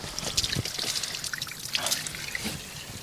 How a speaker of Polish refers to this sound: Jesteśmy przy gietrzwałdzkim źródełku. Słychać plusk wody. Możemy tej wody spróbować.